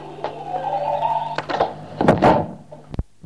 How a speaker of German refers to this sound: Mach mal die Tür zu.